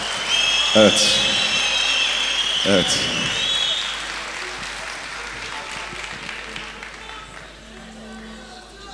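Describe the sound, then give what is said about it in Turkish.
Steady applause from guests for a speaker fills the whole stretch as a dense, even wash of clapping, with a couple of brief spoken interjections rising over it near the start. “Sevgili misafirler, güzel alkışlarınıza, şahsıma beslediğiniz güzel duygulara çok teşekkür ediyorum.”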